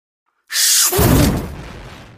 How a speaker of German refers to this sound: Wie aus heiterem Himmel, wie aus düsterer Hölle ist Luzifers Computermonitor explodiert.